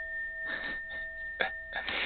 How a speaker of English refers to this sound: Is that part of your kit? It's my ride symbol, yes. What is that? What is that sound? Sounds like some kind of metallic bell.